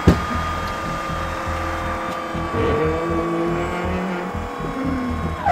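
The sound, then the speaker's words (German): A diesel car engine, likely with a failed injector, now runs smoothly and steadily at idle for several seconds, a smooth continuous hum with a low rhythmic throb, fairly loud, with no voices. “Und jetzt läuft er rund.”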